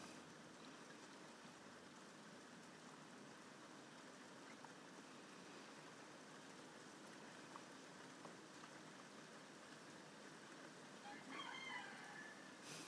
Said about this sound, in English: There's Bob's rooster.